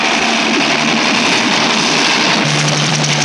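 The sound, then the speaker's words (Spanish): A helicopter flown by Calimán descends to land, roaring steadily and loudly, its broad engine noise carrying a low droning hum and a high whine, with the low tone dipping slightly toward the end. No one speaks. “El helicóptero conducido por Calimán, con pasmosa habilidad, desciende.”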